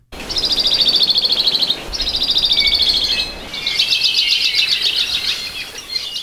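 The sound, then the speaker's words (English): A Hawaii creeper (alawi), a small Hawaiian honeycreeper, sings three rapid, high-pitched trills in quick succession, each a dry rattling run of notes, clear against a quiet background. “Patrick Hart from the University of Hawaii at Hilo brings us a song of the modest Hawaii creeper”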